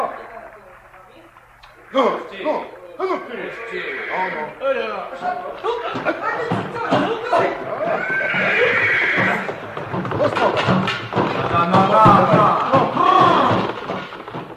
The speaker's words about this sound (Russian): Ну, помоги лошадь завести.